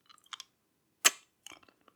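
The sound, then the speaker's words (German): Wet mouth smacks and clicks as a person sucks on a candy, a cluster of small ones followed by one louder, sharper smack and a few softer sticky sounds. No talking. “Das war ein Schmatzer.”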